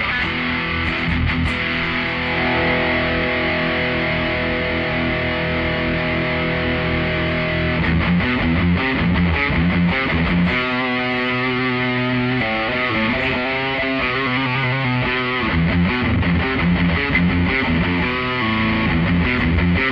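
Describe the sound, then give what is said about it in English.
A heavily distorted electric guitar, distortion turned all the way up, plays a metal riff with scooped mids, starting with sustained chords and then shifting into tight, rhythmic chugging. It is loud, with no talking. “Let's see if we can get a proper fucking metal sound out of this guy. We are going to scoop the meds.”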